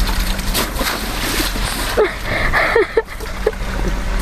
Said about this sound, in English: This is the water kind of dripping out of its computer.